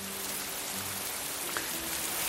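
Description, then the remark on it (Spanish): Steady rain falls in a continuous, even hiss of countless drops, with a few faint low hums underneath and no voices. “Este es un sonido que añoramos. 2023 es ya el quinto año con menos agua almacenada en los embalses.”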